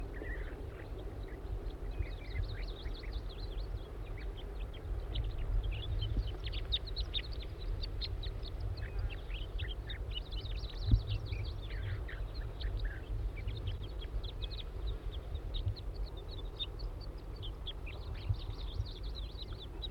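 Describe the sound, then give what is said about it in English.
A young wild bird calls over and over in quick, high chirps and short bursts, with a steady low motor hum running underneath the whole time. “This bird looks like a juvenile.”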